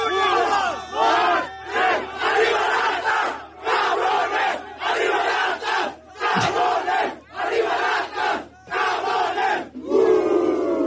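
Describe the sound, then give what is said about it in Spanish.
Atlas football fans chant loudly in rhythmic, repeated bursts of many voices shouting together, led by a fan leaning out of a car window, each phrase separated by short pauses, with one sharp bang partway through. “Y para que no quede duda de su atlismo a ultranza, aquí lo tenemos encabezando los cánticos y el apoyo al equipo de sus amores.”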